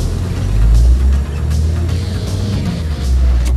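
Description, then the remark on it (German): A car's engine rumbles low and steady as the vehicle, driven by Peter with Justus and Bob aboard, pulls away from a parking lot at once, a deep continuous drone with faint road noise on top and no voices. “Als Justus nach seiner Vorstellung als Papagei zum Parkplatz kam, entging er der Wut der Spieler von Costa Verde nur, weil es ihm gelang, schnell und rechtzeitig genug zu Peter und Bob ins Auto zu steigen. Peter fuhr sofort los.”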